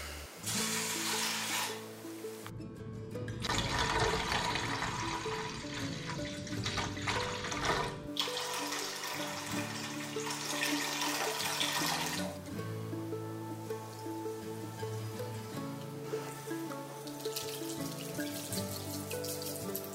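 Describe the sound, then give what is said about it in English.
Apple cider vinegar and water for a pickling solution splash and trickle into a pot in several bursts, a steady pouring with brief pauses between streams and no talking. “In order to make the pickling solution, we're just gonna combine the apple cider vinegar, water, sugar, pickling spice and bay leaves into a pot, bring it to a boil, and then let it cool down.”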